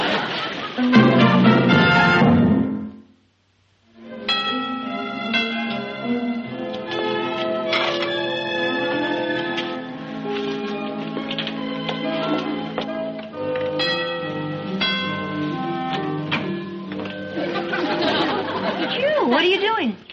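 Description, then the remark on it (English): A doorbell that is being fixed rings with bright, overlapping chimes that sound again and again, fairly loud, mixed with people chattering. “Fixing the doorbell. I won't ring. You just rang.”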